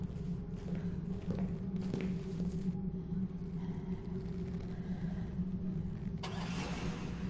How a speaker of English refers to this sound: Martin violently backs his Range Rover up, then tears off down the road